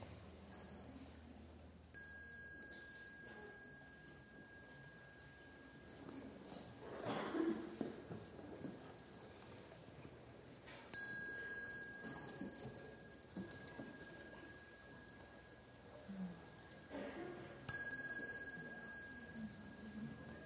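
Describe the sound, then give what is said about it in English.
A bell is struck three times, several seconds apart; each clear, resonant ring lingers and slowly fades, with no one speaking. “So when you hear the bell, you might like to stand up and bow to the Sangha before you go and continue your practice outside.”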